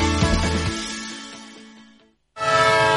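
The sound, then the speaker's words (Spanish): A loud, sustained horn blares from a departing train and fades away over about two seconds, then after a brief silence a second blast abruptly starts. “Un tren que se va.”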